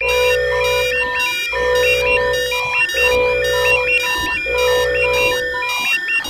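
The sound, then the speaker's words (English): A loud electronic panic-button alarm blares, repeating the same cycle of warbling high-pitched beeps over a steady harsh buzzing tone about four times, with no voices. “Whoa, that's an annoying sound, eh? I suppose you wouldn't want to hit that alarm too often.”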